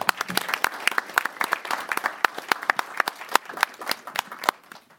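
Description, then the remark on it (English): An audience applauds steadily for about five seconds for student athletes who have just introduced themselves, many hands clapping at once in a dense, crackling patter with a few sharper individual claps standing out, moderately loud. “Well, let's give them another round of applause.”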